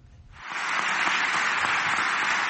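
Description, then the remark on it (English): Parliamentary deputies of Turkish President Recep Tayyip Erdogan's party break into loud, dense applause as he accuses Western countries of seeking to relaunch the Crusades. The applause swells within half a second and holds steady as a continuous roar of clapping, with no voices standing out. “To rousing applause from parliamentary deputies of his party, Turkish President Recep Tayyip Erdogan Wednesday accused Western countries of seeking to relaunch the Crusades.”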